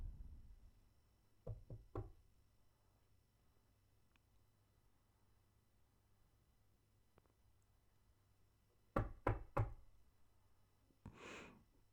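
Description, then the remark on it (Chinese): Two bursts of knocking on a door, each about three sharp raps, separated by a long quiet pause over a low steady hum, followed by a soft breathy rustle. “这个笨蛋怎么不开门？”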